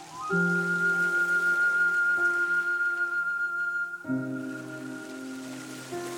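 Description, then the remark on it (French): A steady, hissing wash of waves on a beach runs underneath soft, sustained synth chords that shift twice. No clear surges stand out, and no one speaks. “Le bruit des vagues sur la plage renforce cet instant où tu t'abandonnes à la détente.”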